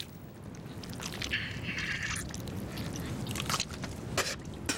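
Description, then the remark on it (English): Wet biting and chewing into a live octopus, biting straight between its eyes to kill it, with squelchy crunches and sharp bursts of mouth noise repeating over a few seconds, with no talking. “Quick way of killing this, bite straight between them, sever the nerves.”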